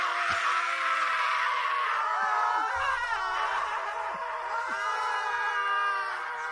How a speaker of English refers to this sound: Bunch of guys just walked in, started screaming. This sounds like he's not screaming, like this is his language. And they left.